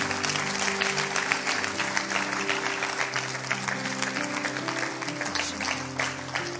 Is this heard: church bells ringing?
no